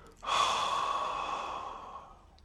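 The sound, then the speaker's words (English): A single long, airy deep breath, taken in a guided breathing exercise, starting abruptly and slowly tapering off over about two seconds as it is breathed out, with no talking. “So I'm going to invite you to take a few deep breaths in. Hold it. And breathe out.”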